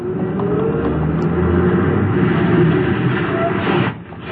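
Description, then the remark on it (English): A bus pulls away from a stop after taking on a passenger, its loud engine rumble building and straining for several seconds before abruptly dropping off near the end. No one speaks. “I reached the stop as the bus was pulling away.”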